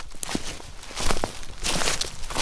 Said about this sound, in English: The sidewalk crunches as you make your way to the park.